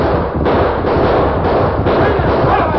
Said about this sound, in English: As he approached a bend in the road a few miles below Snake City, five pairs of crafty eyes were watching him. A signal from the leader and five masked horsemen, guns blazing, moved out to intercept him.